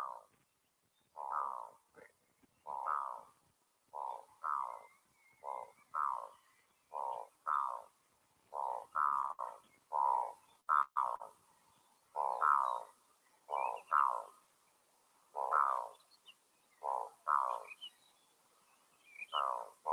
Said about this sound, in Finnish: Laitetaan vielä toinen kuikka äänite tähän perään. Tämä on vähän parempi.